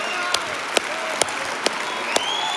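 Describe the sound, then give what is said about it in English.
An audience applauds in praise of God in a steady, dense wash of clapping, with sharper, louder claps standing out roughly every half second and faint cheering voices rising through it. “Come on, cheer Him on.”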